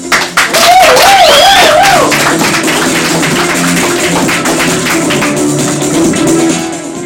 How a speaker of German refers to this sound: Wir haben Studiogäste eingeladen und ja, von denen würde ich noch mal einen Applaus hören.